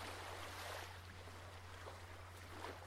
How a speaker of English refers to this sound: how soothing. And listen to the sounds, Just listen. The waves very gently coming home to the shore.